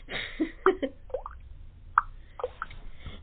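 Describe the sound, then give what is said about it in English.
A voice imitates water dripping onto the end of a bed with a series of short, wet plopping mouth sounds, spaced irregularly and fairly clear, with no words spoken. “And I look at the end of my bed, and it was going drip, drip, right on the end of the... Yeah, like that.”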